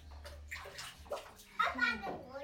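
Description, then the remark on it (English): Water sloshes and splashes in a bathtub, with a child's voice rising over the irregular watery noise. “You can only throw cups of water on people that are in the bath.”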